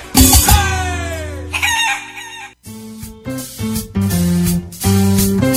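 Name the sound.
chicken clucking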